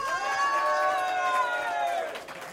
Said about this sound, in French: Écoutez, normalement, c'est le bout où je fais donner une grosse main d'applaudissements pour les VJ de la soirée.